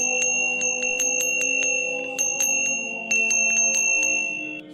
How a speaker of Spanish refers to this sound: Sube una escalera, llega al tercer piso y agita fuertemente la campanilla.